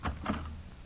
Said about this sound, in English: be careful opening the door. Maybe it's the cat burglar.